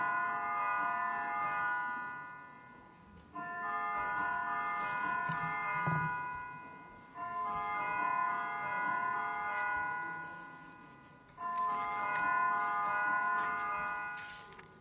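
An electric bell summoning a parliamentary vote rings in four long, steady bursts of about three seconds each, separated by brief gaps. It is loud and sustained with no voices.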